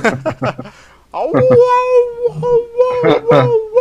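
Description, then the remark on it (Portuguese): A brief burst of speech gives way to voices mimicking wolves howling at the moon: a long, sustained, wavering wail that holds a steady mid pitch, with other voices chiming in and overlapping as it continues. “Eu achava que a gente deveria uivar pra lua, né?”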